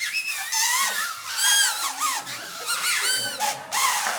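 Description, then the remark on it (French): Several homemade paper whistles, made the previous afternoon, blown together, a shrill, reedy chorus of overlapping tones that wobble and slide in pitch, sounding continuously and fairly loud for about four seconds with no talking. “Puis-je entendre un sifflet pour ceux qui ont reçu leur sifflet ?”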